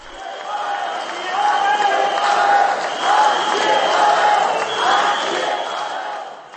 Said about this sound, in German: Dieses Mal wurde der Gedenkakt zu einer Demonstrationsveranstaltung. Während einige der Zuschauer Staatspräsident Petr Pavel auspfiffen, skandierte eine große Menge seinen Namen.